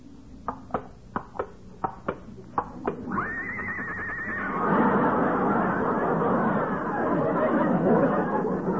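A few sharp hoof clops lead into a loud neigh from Lillian the horse, brought out as a model for an art class. She whinnies for about a second, then breaks into a rough, noisy snorting blur that continues to the end.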